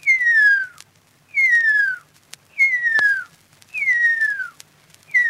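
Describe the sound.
A Maori whistler imitates the extinct huia's call, in an analog recording made in the mid-20th century and now digitized: a series of five clear, high, downward-slurring notes, each about a second long, repeated at an even pace over faint background hiss.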